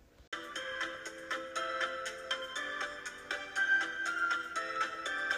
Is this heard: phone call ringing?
yes